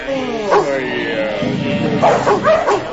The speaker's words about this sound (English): Shut up! That's better. You dogs aren't allowed to bark. Don't look so worried. They won't bite you unless we tell them to.